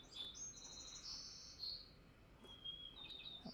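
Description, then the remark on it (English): A white-crowned sparrow sings a clear whistled phrase that breaks into buzzy trills, then a shorter phrase follows, heard fairly faintly over a steady low background hiss with no talking. “That was a white-crowned sparrow.”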